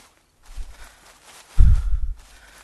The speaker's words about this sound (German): aber könntest du ein bisschen langsamer gehen? Deine Schritte sind viel größer als die meinen. Ich komme nicht so schnell hinterher.